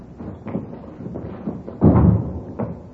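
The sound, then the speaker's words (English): A door is opened and shut: a few light knocks and rattles of the handle, then a heavier, muffled thud as it closes, with a faint click after. “Here, I'll get the door.”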